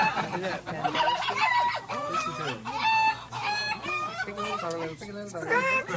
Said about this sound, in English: We got chickens in stereo.